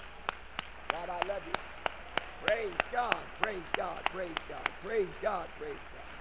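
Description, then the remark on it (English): Sharp, evenly spaced hand claps keep a steady beat throughout, while voices call out and sing loudly over the clapping; a hand clap given to the Lord during an evening church service. “Let's give him a good hand clap tonight.”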